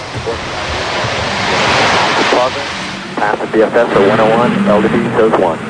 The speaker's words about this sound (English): Go for main engine start. 3 main engines up and burning.